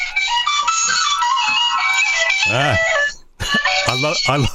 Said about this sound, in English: I love your phone signal there. That's an Irish jig by the sounds of it